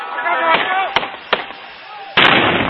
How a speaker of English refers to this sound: The last bang is that of the suicide bomber, blowing himself up.